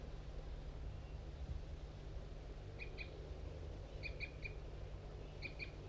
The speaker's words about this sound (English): Recording those wild birds, I think two females are still in that pine tree and they were giving a few flight calls. Definitely large race birds. That may be them flying off into the distance.